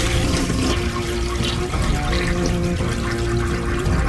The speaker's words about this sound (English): See, because it's a long flush.